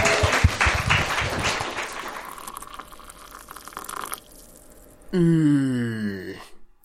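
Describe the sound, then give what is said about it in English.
A short burst of clapping, dense and crackly, that thins out after a few seconds, followed by a drawn-out vocal groan sliding downward in pitch. “Round of applause, please,”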